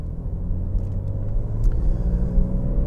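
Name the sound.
car driving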